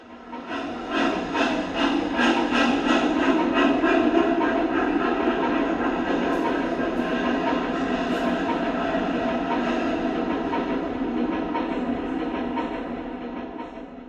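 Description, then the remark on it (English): A long black train pulls out of a station on a frosty day, its wheels and carriages rumbling and clattering steadily with a faint hiss, loud throughout before easing slightly toward the end. “making it round the pointless wall in time to see a long black train pulling out of Dunleavin Station.”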